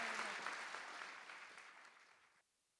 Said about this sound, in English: So we want to thank you, Wendy, for joining us today. Please give Wendy a round of applause. Thank you, Wendy.